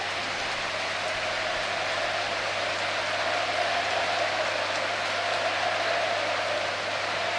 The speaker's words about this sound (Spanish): Sí, ovación para Dani Parejo.